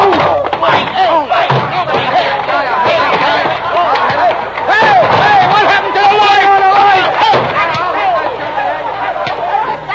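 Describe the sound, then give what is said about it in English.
A chaotic bar brawl erupts, with loud shouting and excited yelling from many voices over thuds, slams and knocks of a fistfight, continuous throughout. “I thought it was a pretty good fight.”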